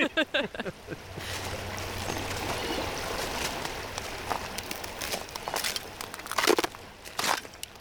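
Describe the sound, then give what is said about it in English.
Footsteps crunch over ice on the partly frozen bank of the Cache River where it goes under Route 37 in Johnson County, southern Illinois, in winter, in an uneven walking rhythm, each step a crisp, crackling crush. A few louder crunches stand out near the end, with no voices. “From crunching on ice to hiking in southern Illinois humidity”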